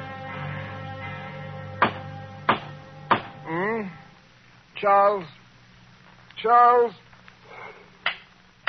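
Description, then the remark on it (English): Three sharp, hollow knocks at a door, where the bell is out of order, land in quick succession, followed by a pause filled with wavering voiced sounds, then a single final knock near the end. “Someone at the door. Oh, dear, the bell must be out of order.”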